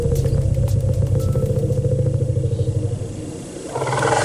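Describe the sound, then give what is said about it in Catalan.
Deep, sustained rumbles of elephants in Kenyan nature reserves calling one another by name, the low vibrating calls throbbing steadily, dipping briefly near the end, then swelling back in. No one speaks. “Però això és el que realment sentim quan es criden pel seu nom els uns als altres.”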